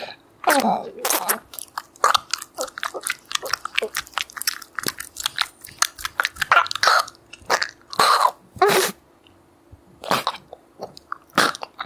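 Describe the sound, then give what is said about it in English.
Someone chews a big mouthful of food, with a steady run of loud, wet, crunchy bites and smacks in uneven bursts, plus a few throaty noises. “Got it all in my mouth.”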